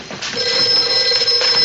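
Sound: telephone bell ringing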